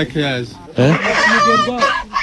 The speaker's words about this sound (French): Et viens voir aussi, ça regarde les poules. Là les poules sont à toi aussi.